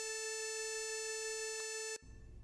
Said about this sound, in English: Anyway, he decided to alter it with an alarm to alert the user with a sound. No, not that kind of sound, an audio tone, like an alarm.